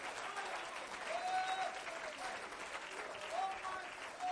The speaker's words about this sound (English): If you love that and you know that to be true, clap your hands and lift up your voice and magnify God.